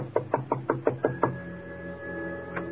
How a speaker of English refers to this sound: She told me to wait, and she went over and knocked on the door.